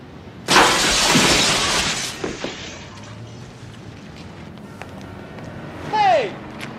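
A man is thrown through a window, which shatters in one loud, sudden crash of breaking glass lasting over a second, followed by scattered tinkling debris and muffled movement, then a short shout rings out near the end.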